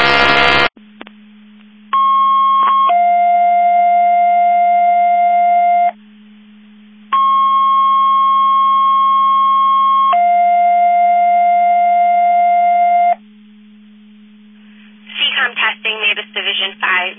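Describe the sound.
Two-tone radio paging alerts sound loud and clear over a steady hum, each pair a long high tone dropping to a lower one, repeated twice, followed by a dispatcher's voice starting to speak.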